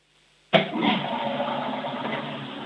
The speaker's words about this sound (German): Oh ja, ihr habt eine laute Klospülung.